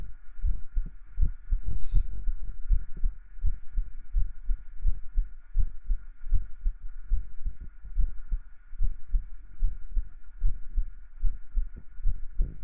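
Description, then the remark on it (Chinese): A rapid, steady heartbeat thumps through a monitor speaker, with soft whooshing pulses over a constant electronic hum and one brief click early on. No one speaks. “像你姐姐的心跳，长得像就算了，心跳都不像。”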